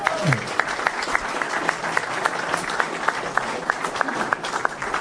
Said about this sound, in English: So well done to all the boys here that got us this far. The bulk of them are nearly all from the town and here, so forth. Yeah, we'll so give a round of applause here.